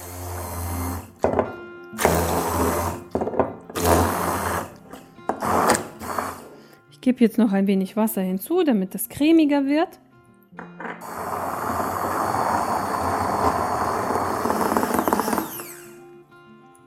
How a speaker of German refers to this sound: Ich schließe mir jetzt mal einen Handmixer an. Ihr könntet auch das Dressing in einem Standmixer machen, je nachdem, was ihr zu Hause habt. So, und jetzt beginnen wir zu mixen.